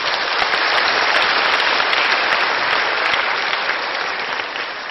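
Steady, sustained applause from an audience welcoming a sharing team onto the stage, a dense wash of many hands clapping at an even loudness, tapering slightly toward the end, with no voices standing out.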